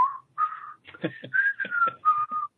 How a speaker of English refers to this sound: And sometimes I think it's nice with a little bit of whistling.